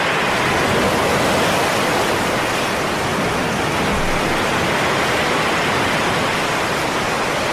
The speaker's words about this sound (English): Or you can listen to these really loud waves. These aren't waves, by the way. These are actual waves.